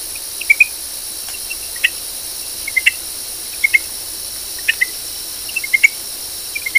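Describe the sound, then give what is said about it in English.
Greenhouse frog calls in the Hillsborough River watershed: short, high, insect-like chirps, often in quick pairs or small clusters, repeating irregularly every second or so over a steady hissing background. “Its call sounds like a small insect chirp.”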